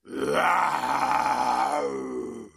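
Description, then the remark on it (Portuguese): A lion, Simba, roars in the middle of a city market, frightening the people there: one long, deep, rumbling growl with rich harmonics, loud and sustained for about two and a half seconds before cutting off, with no talking. “Sentou-se no meio do mercado e assustou todas as pessoas que ali se encontravam, com o seu porte nobre e o seu estrondoso rugido.”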